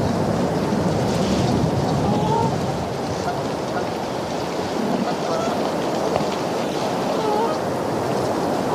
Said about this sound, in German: Also das sind dann in dem Fall jetzt auch keine Elche, aber immerhin Enten, Gänse, Schwäne. Aber eben doch insgesamt recht wenig. Der Wind ist vor allem zu hören.